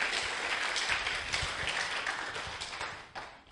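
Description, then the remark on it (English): A crowd applauds with dense, steady clapping that stays loud and even for a few seconds, then thins and starts to fade at the end. No voices are heard. “A round of applause for our two special things.”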